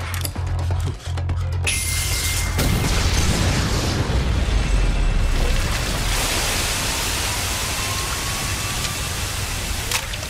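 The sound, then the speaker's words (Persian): Loud gunfire booms out a few times in quick succession, sharp blasts over a dense, roaring wash of noise that carries through to the end. “تو ژاپن برای شلیک با اسلحه نیاز به مجوز داری مگه نه؟”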